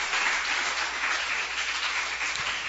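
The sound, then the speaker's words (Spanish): A church audience bursts into steady, sustained applause for God, many hands clapping together in a dense, even wash of sound that holds at full strength throughout, with no voices standing out. “Y si le va a aplaudir a Dios, apláudele a Dios.”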